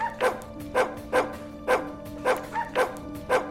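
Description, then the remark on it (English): A dog barks repeatedly in a steady rhythm, about seven sharp woofs over a few seconds, moderately loud with no one talking. “Do you think we should get dog training?”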